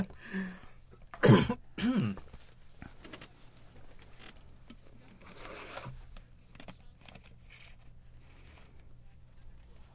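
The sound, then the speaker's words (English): Two sharp coughs in quick succession near the start, followed by quieter rustling and faint scraping in otherwise still surroundings. “I'm coughing.”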